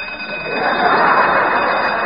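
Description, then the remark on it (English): An alarm clock rings loudly and continuously at 4 o'clock in the morning, waking a band of rangers, a dense, rattling metallic clatter that swells slightly and holds steady for about two seconds with no voices over it. “Turn off that alarm clock!”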